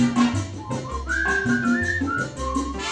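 Someone whistles a bright, wavering tune over a steady musical backing with a bouncing bass line; the whistled notes ride clearly on top, no words spoken.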